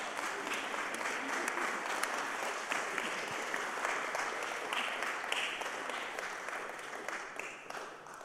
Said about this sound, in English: A little applause.